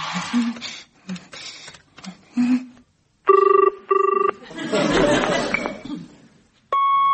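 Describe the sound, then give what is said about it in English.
A phone being dialed to call a headmaster, with several quick clicks and beeps, then a double electronic ring tone, a brief noisy stretch with muffled voices, and another ring starting at the end. “Hello, you've reached the answer phone of the headmaster.”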